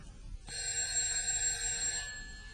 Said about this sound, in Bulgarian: Кой ли звъни? Ще отида да видя.